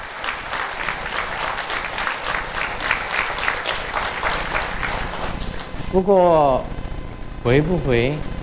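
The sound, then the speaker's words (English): A crowd applauds with steady, dense clapping for several seconds, then a couple of loud, swooping whoops and cheers rise over the fading claps. “So everyone is applauding, hoping Grandmaster do not return at the age of 66.”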